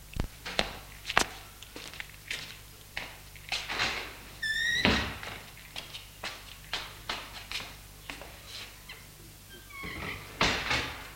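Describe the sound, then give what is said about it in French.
A French window is opened by a man at two in the morning, creaking with a high, squeaky hinge whine midway, then a fainter creak near the end, among a steady run of soft thumps and taps. No voices. “Ouvre la porte-fenêtre.”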